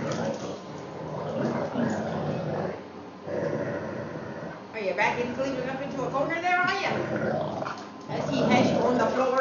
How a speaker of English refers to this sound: Oh, then he is growling. I just... Oh, they're both going right now. You can shake each other's heads off. They're unison growling.